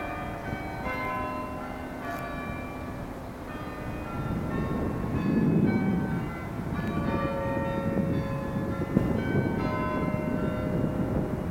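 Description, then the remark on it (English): The Bourneville Carillion bells ring out a slow sequence of tones for 9 o'clock, heard on Bourneville Village Green near the Carillion Visitor Centre, their long resonant notes overlapping and lingering against a steady outdoor rumble, with no one speaking. “And right on cue, that's the Carillion you can hear.”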